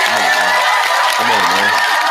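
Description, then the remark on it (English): Loud, steady crowd applause with cheering, a dense wash of clapping throughout and a few voices whooping over it. No one speaks. “Matter of fact, give yourself a round of applause.”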